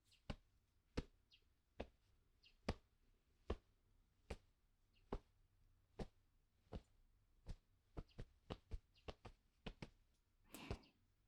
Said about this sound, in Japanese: このままリズムよく叩いていきますね。トントン、トントン。